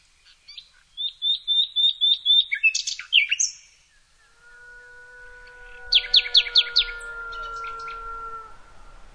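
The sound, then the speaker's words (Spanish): A common nightingale sings in a forest, a loud run of rapid, repeated high notes, then a flourish of sharp trills over long, steady, lower tones that fill the second half. No talking. “La riqueza de la música natural se puede apreciar escuchando la capacidad del ruiseñor común para adornar con sus amplios registros el bosque cercano.”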